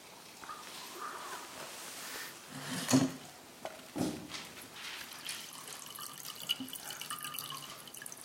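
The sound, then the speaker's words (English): Water trickles and splashes as it is poured into a glass, with a couple of brief clinks and soft drips, no voices. “If you need some water, go ahead, get yourself some water.”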